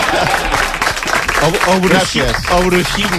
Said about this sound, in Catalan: Un aplaudiment pel bruixot Dalmau.